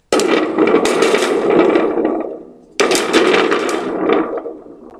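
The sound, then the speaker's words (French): A thunder stick is shaken twice, each burst a loud, crackling metallic rumble that swells and then fades away, imitating rolling thunder. No one speaks. “Écoutez, le bâton de tonnerre.”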